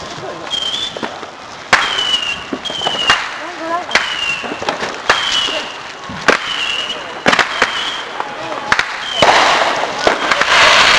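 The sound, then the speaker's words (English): A 100-shot fireworks cake fires a rapid, uneven string of loud cracking bursts, many trailed by short high-pitched whistles that slide downward, building to a dense crackling flurry at the end. “It's 100 shot in there.”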